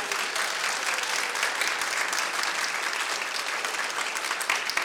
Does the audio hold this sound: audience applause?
yes